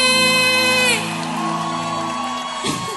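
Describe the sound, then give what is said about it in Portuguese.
A small group lets out a loud, drawn-out whooping cheer that breaks off after about a second, leaving a ringing tail and some faint scattered voices. “Cadê o gritão pro …?”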